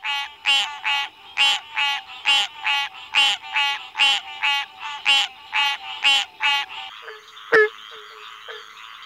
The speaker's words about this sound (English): First, the harsh quank of green tree frogs.